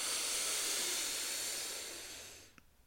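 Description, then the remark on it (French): A long, deep breath drawn in through the nose during a guided breathing exercise, a steady airy rush lasting over two seconds before tapering off, followed by a faint click. “Et puis, on vient inspirer profondément.”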